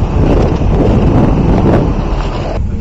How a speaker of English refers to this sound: The vans are moving out as I speak, you can hear them.